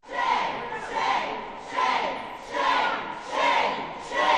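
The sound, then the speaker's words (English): Dozens of protesters jeer and boo in loud, swelling waves at three Republican men who voted for abortion bill HB 481 as they leave a state committee meeting, rising and falling roughly every second in a steady chant-like rhythm, continuous throughout. “Three Republicans, all men, who voted in favor of the bill were booed by dozens of protesters as they left the committee meeting.”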